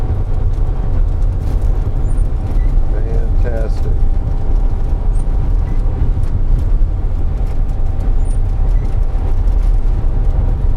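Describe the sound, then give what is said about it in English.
A snowplow truck plowing snow drives steadily with a constant deep engine and road rumble, the scraping drone of plowing blended in throughout, while a person speaks briefly over the noise; the plowing pulls the truck to the right. “you can almost feel it pull a truck to the right.”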